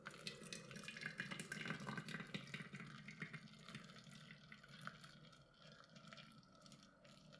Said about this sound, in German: Und mach das ganz bewusst, lass den Tee, das heiße Wasser, ganz bewusst über die Blätter fließen.